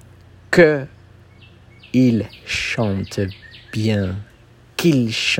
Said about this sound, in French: Oh là là, écoutez, tellement ils chantent bien, ces oiseaux.